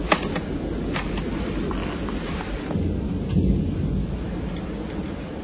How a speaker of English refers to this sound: Is it raining down there? Well, it is here. Electric storm.